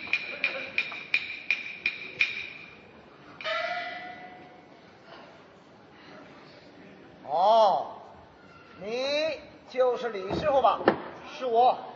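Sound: door opening and closing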